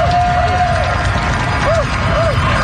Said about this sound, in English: every night at 7 p.m. in Vancouver, British Columbia, the towering city breaks out in a cheer during the coronavirus pandemic.